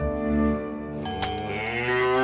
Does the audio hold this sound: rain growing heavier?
no